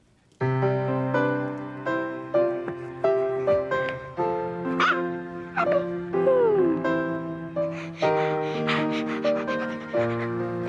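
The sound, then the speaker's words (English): Abby, a black Labrador being trained as a guide dog for a blind person, barks and whimpers, producing a steady run of bark-like yelps mixed with sliding whines that carries on for about ten seconds without pause. “The name of my dog is Abby, and she's a black lab.”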